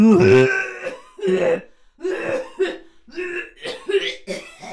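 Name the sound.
coughing fit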